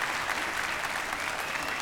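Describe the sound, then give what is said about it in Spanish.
A large audience claps steadily, a dense, continuous wash of applause heard from amid the crowd, holding at an even loudness throughout. “Un aplauso más fuerte para …”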